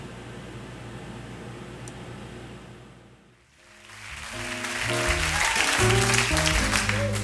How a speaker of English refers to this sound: So it's a live thing, so if you hear like clapping, which I think you might, that is why.